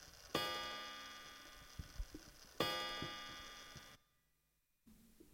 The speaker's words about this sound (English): At that very moment, the grandfather clock struck 1 o'clock.